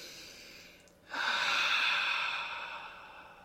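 A slow, deep breath as a breathing exercise: a quiet inhale, a brief pause, then a long, loud, airy exhale that fades out, with no talking.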